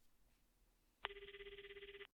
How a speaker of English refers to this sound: Just then, he heard his cell phone ringing on the beach. He ran over and answered it.